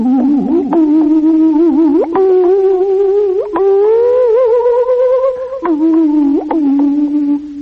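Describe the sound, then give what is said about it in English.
Hawaiian steel guitar music from the radio program Hawaiian Echoes: loud, sustained notes that glide and swoop between pitches, with a few sharp plucked attacks marking new phrases. There is no talking. “I don't think there is a more sickening sound in the entire musical world than a Hawaiian guitar.”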